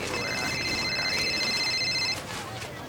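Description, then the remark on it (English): A phone rings with a bright, steady electronic tone that holds for about two seconds and then cuts off abruptly, over a soft murmur of background noise. “Stupid phone.”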